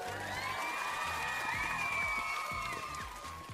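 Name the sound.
applause sound effect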